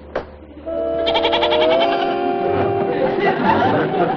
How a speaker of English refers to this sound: That's a goat, all right.